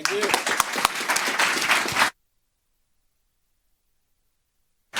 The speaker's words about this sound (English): So please pat yourself on the back and applaud your neighbors on here. Thank you.